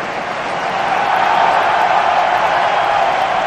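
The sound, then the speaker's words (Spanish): A large crowd at San Mamés stadium in Bilbao roars in a sustained ovation for a returning football player as he comes onto the pitch in the second half, a dense, loud wash of cheering and applause that swells slightly and holds steady throughout, with no single voice standing out. “Esta es la ovación que ha recibido hoy Nico Williams en su regreso a San Mamés”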